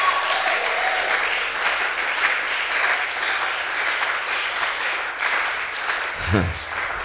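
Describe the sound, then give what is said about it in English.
A church audience, including those at the back and in the overflow, claps to the glory of God in a dense, sustained burst of applause, holding steady at full strength without pause; a brief low tone rises underneath just before it ends. “Oh, come on, clap, clap, clap, clap, clap, clap harder. Those at the back, those in the overflow, clap to the glory of God.”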